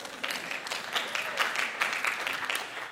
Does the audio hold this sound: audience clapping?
yes